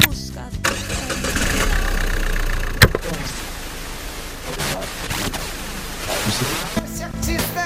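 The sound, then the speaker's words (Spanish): A car engine turns over with a sudden catch, then settles into a steady idle that rumbles on for several seconds, at the start of a car trip on regional roads. “Pero es que esta vez no, es que esta vez el viaje es en coche y encima por carreteras regionales.”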